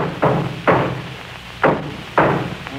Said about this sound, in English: Wait a minute. Let me try something else here with this hammer.